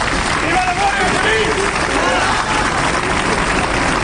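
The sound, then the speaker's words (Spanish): A crowd claps and cheers steadily, a dense, loud wash of applause with scattered shouting voices rising above it, sustained throughout without a break. This happens at a midday gathering on the town hall steps, where a minute of silence for Civil Guards killed in Barbate breaks into applause, cheers for the Guardia Civil and shouts of 'Marlaska dimisión'. “Un minuto de silencio que se rompían a aplausos y vivas a la Guardia Civil y también algún grito de Marlaska dimisión.”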